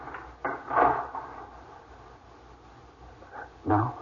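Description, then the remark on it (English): A door swings shut with a dull thud and some rattling, then after a pause a second solid clunk as it is locked. No voices, quiet in between. “Lock the door, dear.”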